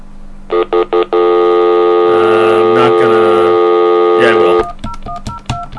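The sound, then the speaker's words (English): A phone line on an outgoing call sounds three short electronic beeps, then a long, steady ringing tone, followed by what sounds like faint muffled talk near the end. “But let's call them up and let's find out a little bit.”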